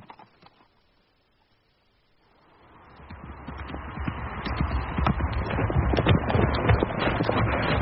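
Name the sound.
horses' hooves clip-clopping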